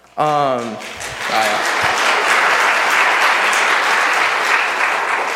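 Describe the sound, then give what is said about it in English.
A room full of people bursts into sustained applause that swells after a brief spoken moment at the start, continuing steadily and loudly for several seconds with scattered cheers. “It doesn't say you're supposed to clap for that on my paper.”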